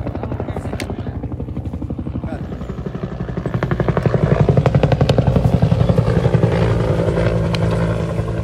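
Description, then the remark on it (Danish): A military helicopter, painted black and green and carrying soldiers, thunders fast and low over the treetops, its rotor chopping in a fast, steady rhythm that swells louder as it passes, with a deep engine roar underneath. “Helikopteren drøner hurtigt hen over toppen af træerne, og soldaterne kigger ud af vinduerne.”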